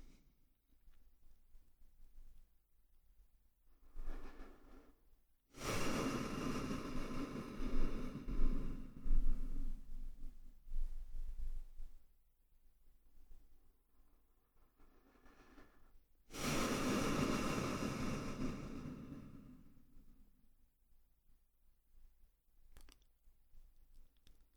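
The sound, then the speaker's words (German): Three slow, deep breaths drawn in and let out in a guided exercise, letting go with each exhale, each long airy rush lasting several seconds, separated by quiet pauses with no talking. “Nun atmen wir dreimal tief ein und aus und mit dem Ausatmen lassen wir los.”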